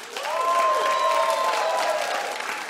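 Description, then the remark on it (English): An audience breaks into applause, a dense, even wash of many hands clapping that holds steady for a few seconds, with a thin whistle-like tone running through it. “Who, by applause, how many people still...”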